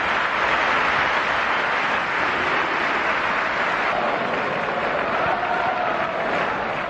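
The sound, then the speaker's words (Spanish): A large crowd of Deportivo fans at Riazor stadium gives a sustained ovation, dense applause and cheering blending into a steady roar that holds at full strength for several seconds without any voices standing out. “Primera ovación y después Fernando Torres loró, loró, loró.”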